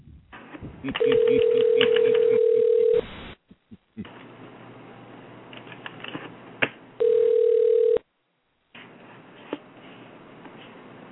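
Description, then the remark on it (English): A phone ringback tone sounds twice as a cell phone is called from an LA number: two long, steady buzzing rings separated by a pause of several seconds, heard over a thin, noisy telephone line. “It's ringing.”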